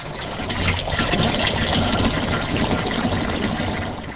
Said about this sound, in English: runs water into large plastic jugs that are used in the camps.